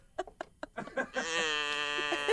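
A goat lets out a long, loud, quavering bleat that holds steady for over a second, preceded by a few short choppy sounds.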